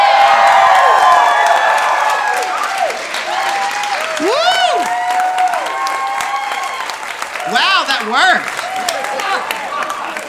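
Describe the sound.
A crowd bursts into loud, sustained applause mixed with whoops and cheers. The clapping is dense and steady throughout, with high shouted voices rising over it.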